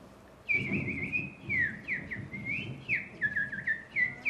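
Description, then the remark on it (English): Birds chirp and whistle in quick, overlapping bursts of bright, high notes, some sliding downward, against a low rumbling outdoor background, with no one speaking. “The sun came up this morning. The birds were chirping.”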